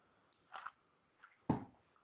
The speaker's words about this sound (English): Excuse me, another sip of the libation.